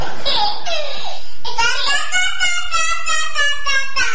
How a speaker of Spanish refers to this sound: cierra la puerta que están los niños adentro del dormitorio. Están conversando la guagua.